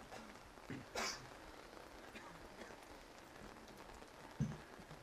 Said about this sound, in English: Let everything relax. Just feeling the breath and the sound of the rain.